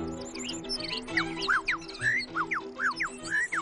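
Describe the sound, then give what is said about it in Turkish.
Bird calls: birds calling to one another with rapid, repeated chirps and sweeping whistled notes in quick succession, over a steady low background hum with no one talking. “kuşlar çıkarttıkları son derece güçlü ve yüksek frekanslı seslerle birbirlerine çağrıda bulunurlar.”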